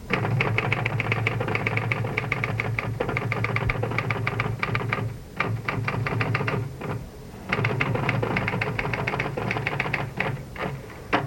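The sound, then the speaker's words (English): Rapid, continuous, fairly loud clacking of typewriter keys at a dining room table, with brief pauses around the middle before the steady typing resumes. No voices. “Corinne Jacker sat at her dining room table. Her typewriter collected and reflected her thoughts.”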